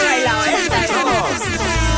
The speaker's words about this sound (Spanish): Cariño, toca el claxon este que me gusta, la sirena, regalo. Toca.